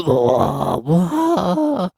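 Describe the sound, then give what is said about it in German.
A person imitates a roar with the voice: drawn-out, loud, growling vocal bursts with wavering pitch, two main pushes separated by a brief break, no words spoken. “Das Brüllen. So ungefähr, genau.”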